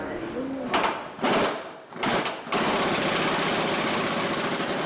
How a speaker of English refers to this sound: walks over with an electric tool called an impact gun.